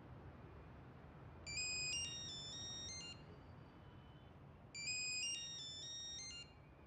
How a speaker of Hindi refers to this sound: जवाब क्यों नहीं देते? क्या बताऊं, खुदा की कसम सुबह से अब तक 10 बार फोन कर चुका है। जरूर किसी ने पैसे के लिए फोन किया है। बुरी बात है, तुम फोन का जवाब तो दो, देखो कौन है।